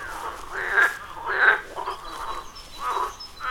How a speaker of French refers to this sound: Ah, j'ai vu un petit cours d'eau. Et j'entendais les grenouilles. Je me suis approché. Et là, j'ai aperçu, mais dès qu'elles m'ont vu, hop, elles se sont tues.